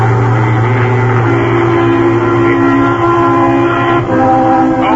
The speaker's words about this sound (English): A large truck carrying sheep is traveling at a moderate speed along Highway 28, leading into Bancroft, Texas